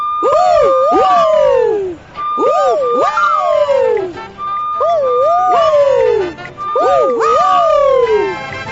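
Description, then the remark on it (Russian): Children imitate a fire engine siren together to help the vehicle clear the way, voices sweeping up and down in loud wailing cycles, four rising-and-falling waves repeating steadily with overlapping voices. “Давайте поможем машине сигналить! Все вместе!”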